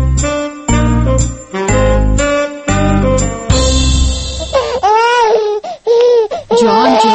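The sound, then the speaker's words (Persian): A baby wails in loud, wavering cries over the last few seconds of a radio drama, following a stretch of rhythmic, repeating musical bursts at the start. “آرام کو بچه را گریان کرد، اصابم خراب کرد.”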